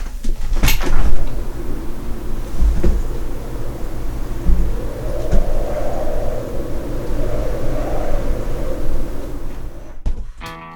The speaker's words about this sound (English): Here we are on Edit Radio with two songs to go, and what we lack in EU membership this week we've been making up for in wind speed. So let's just see how the storm's getting on. Hang on. Let's open this window.